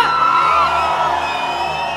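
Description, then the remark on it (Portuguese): A large concert crowd in Viçosa, Minas Gerais, shouts and cheers loudly and continuously as the performer urges them to shout, a dense wall of voices with whoops rising above the roar, filling the whole moment without pause. “Não ouvi. Grita, grita, grita!”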